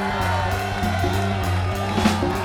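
A concert crowd cheers and whoops amid steady applause for the keyboard player at stage right during band introductions, loud and continuous throughout, with sustained musical tones humming underneath.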